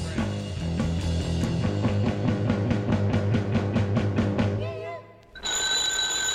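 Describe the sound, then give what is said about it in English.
An electric doorbell rings in a fast, steady metallic trill for about four seconds over a low humming backdrop, then a short sliding tone gives way to a bright, sustained electronic chime. “Don't answer that doorbell unless you're ready for a lovely young package of trouble.”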